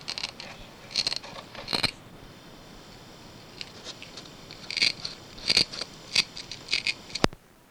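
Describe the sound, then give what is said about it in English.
Velcro on the back of a small stick-on car clock being pulled apart in a series of short, raspy ripping bursts, grouped in two clusters with quiet gaps between, ending on a single sharp click. No one speaks. “And see, it has Velcro on the back too.”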